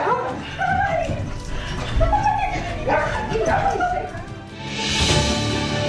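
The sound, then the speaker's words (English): A dog yips, barks and whimpers excitedly as it welcomes an astronaut home after a year in space, its high whines rising and falling between short bursts, ending in a rush of rustling noise. “And after a year in space, an astronaut comes home to a dog's welcome.”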